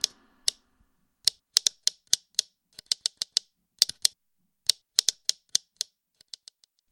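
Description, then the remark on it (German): Crisp clicks tapped out in irregular bursts on the tightly fitted lid of a coffee-to-go cup held in both hands, mimicking typewriter keys being struck, with brief pauses between clusters and a few softer taps trailing off at the end. “Und um die Schreibmaschine zum Leben zu erwecken, braucht ihr eigentlich nur einen Coffee-to-go-Becher.”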